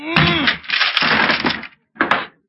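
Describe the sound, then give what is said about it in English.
A wooden closet door splinters and breaks apart as a man rams it to get out: a loud, drawn-out crunching crack with a creaking groan, then a short second burst of snapping wood after a brief pause. “if we could just park them splinters, you'd have a lovely head of hair”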